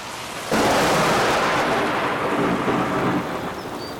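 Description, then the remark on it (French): A loud, sustained crack of thunder from a passing storm breaks in abruptly and rumbles on for several seconds over steady, hissing, dense rain, with no voices. “On regarde passer l'orage.”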